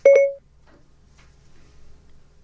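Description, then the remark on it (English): Computer crash beeps: two quick, loud electronic tones run together into a short steady beep, then the sound drops away to a faint low hum. “Sounds like my computer crashed.”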